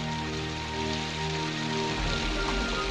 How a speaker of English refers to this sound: They pass many storefronts and our view rises. In the alley outside the warehouse, Nick stands in the rain with Grunt.